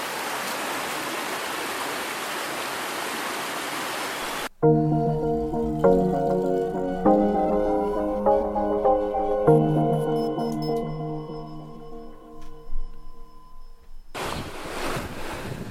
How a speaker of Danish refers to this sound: Jeg er stadigvæk her ved vandet. Den brusende bæk. Med fugle i baggrunden.